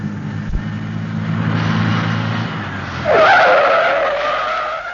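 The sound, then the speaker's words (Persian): A truck's engine rumbles as it approaches, then its tires let out a loud, sustained screech as it brakes hard and skids over the final two seconds as someone jumps in front of it. “عیب نداره، بهتر شما همینجا قایم شید، تا کامیون رسید من میپرم جلوش، تا بازتر شما ها سوار شید.”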